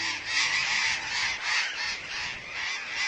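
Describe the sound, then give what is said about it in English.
A flock of hundreds of burrowing parakeets screeching all at once as they swirl into a deep ravine in Argentina, a dense, continuous wall of harsh overlapping calls that swells and dips slightly, with no voices. “A flock of hundreds of parakeets swirls into a deep ravine in Argentina.”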